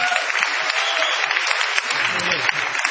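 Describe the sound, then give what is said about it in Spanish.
Steady audience applause for the percussion performance, a dense crackle of many hands clapping at once, holding at an even, fairly loud level for the whole stretch without fading. “Es un aplauso, sí.”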